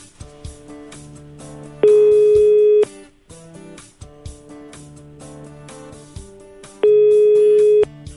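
A telephone ringback tone plays twice, each burst about a second long and spaced several seconds apart, standing out loudly over continuous background music, as Radio Ognišče calls a listener live on air for her birthday.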